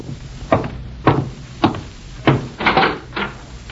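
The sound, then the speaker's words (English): About six firm knocks on a wooden door, spaced roughly half a second apart with a quick double near the end, fairly loud, with no voices. “And I'm getting cleaned up before going out to meet my FBI contact when I'm interrupted by a knock at the door.”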